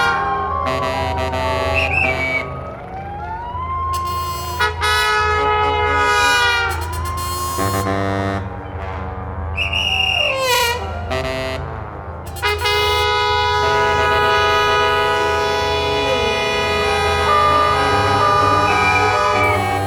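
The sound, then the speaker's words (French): A dense street soundscape in New York City: many car horns honking and blaring over one another, some long and some short, above a steady low rumble of traffic, loud and continuous throughout. “Les buildings montent jusqu'au ciel, les gens s'affairent en tous sens, partout les voitures klaxonnent, les enseignes clignotent.”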